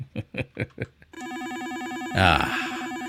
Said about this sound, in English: Oh, wait. Wait. Hold on. Getting another phone call.